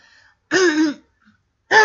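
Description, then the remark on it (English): A loud cough right into the microphone, a harsh half-second burst, then a short silence before a second cough starts. No talking. “Guys, I'm sorry if I coughed into the microphone.”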